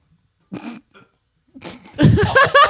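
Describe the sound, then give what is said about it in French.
A loud, drawn-out burp rumbles, coming after a couple of shorter throaty grunts and a brief pause. “C'est immonde! Quoi, t'es quoi? Le mec qui rote et tout, ouais, c'est bon, je m'en vais.”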